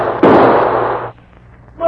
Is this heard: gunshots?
yes